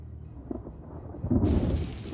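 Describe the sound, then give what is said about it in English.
A low, dull rumble gives way to a sudden, steady hiss of rain pouring down outdoors on a man in a light-colored overcoat, fairly loud and continuous through the second half, with no voices. “A figure in a light-colored overcoat stands in the rain and checks his watch.”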